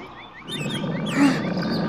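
Three tigers roar and growl in a low, rumbling chorus as they get ready to pounce on Kancil the mouse-deer. Several overlapping snarls swell louder near the middle and continue steadily, fairly loud, with no talking.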